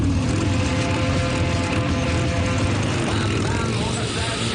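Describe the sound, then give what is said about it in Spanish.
Loud, continuous roar of racing motorcycle engines at the Motorcycle Grand Prix in Valencia, with the whine of revving bikes rising and falling as they pass, steady throughout. “Son los ruidos de las motos en una nueva edición del Gran Premio de Motociclismo”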